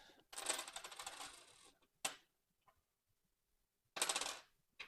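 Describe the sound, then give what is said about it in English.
Metal coins jingle and rattle for over a second, followed by a sharp single clink and, after a pause, another bright burst of coins clattering together. No one speaks. “Ah, there's coins.”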